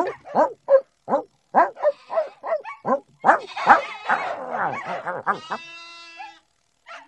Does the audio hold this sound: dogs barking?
yes